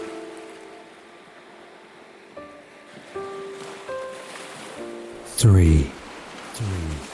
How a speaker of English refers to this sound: allowing the sound of the waves to calm your mind.